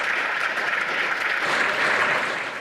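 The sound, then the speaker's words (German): Spectators on the overfull public gallery of the parliament at the town hall applaud, normally forbidden, after the closing words of their spokesman Urs Hans in a debate on compulsory vaccination: a dense, even patter of many hands with no voices standing out, sustained at a constant level throughout. “Den eigentlich verbotenen Applaus hat das Parlament aber nicht beeindruckt.”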